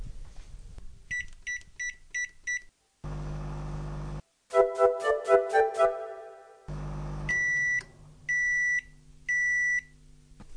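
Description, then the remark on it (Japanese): A microwave oven heats a pack of cooked rice, its corner opened slightly, at 500 watts for 1 minute 30 seconds. It hums as it runs, with a burst of clattering in between, bracketed by short electronic button beeps, and ends with three loud, evenly spaced finish beeps. No one speaks. “はい、加熱が終わりましたのでパックご飯を電子レンジから出します。”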